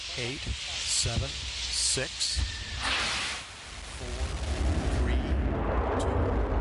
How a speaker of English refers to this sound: Go from an engine start.